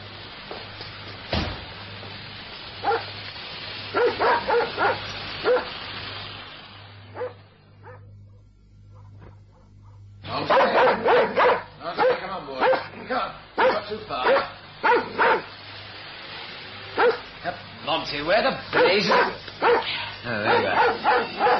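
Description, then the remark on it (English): A dog barks in rapid, repeated bursts, fairly loud, pausing briefly before resuming with a long volley of excited barks and yips. “Well, there goes the dog.”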